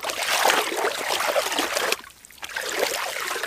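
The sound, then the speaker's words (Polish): River water flows steadily with a broad rushing, gurgling sound, fairly loud, briefly dipping quieter partway through before resuming. Ice lines only the riverbanks while the main current in the middle stays open and unfrozen. No voices are heard. “Tak, bo tutaj rzeka płynie sobie, lód tylko jest przy brzegu, a ten nurt główny po środku jest żywy, no i woda jest odkryta, że tak powiem.”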